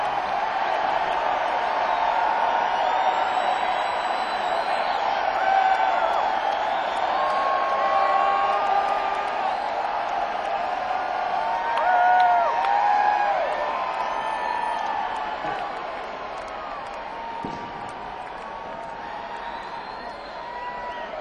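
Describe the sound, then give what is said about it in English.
A large live crowd yells and cheers continuously, a dense wall of overlapping shouts and whoops at steady loudness, with a few higher voices poking through before easing slightly toward the end. “If you guys yell loud enough”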